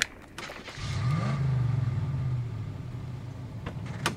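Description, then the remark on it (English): A truck engine revs up and rumbles past as the truck is driven over to a shipping door, its low drone rising in pitch and then easing off, with a couple of sharp clicks near the end and no talking. “drive the truck over.”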